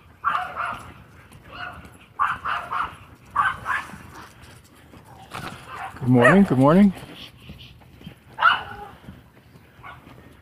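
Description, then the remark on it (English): Two small dogs that are pulling hard let out a short burst of high, yappy barks and whines midway through, while a person talks and greets someone with footsteps in the background. “Jeez, you wouldn't think two little dogs like that could pull that hard, but I'm sure they do.”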